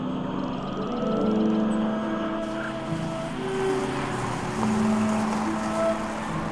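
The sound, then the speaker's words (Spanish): A car cruises along a road through a wooded area, a steady engine hum with low droning tones and road rumble holding at an even level throughout, no voices. “Circulan por una carretera que cruza una zona arbolada.”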